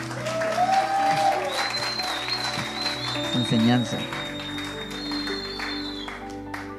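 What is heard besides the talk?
audience applause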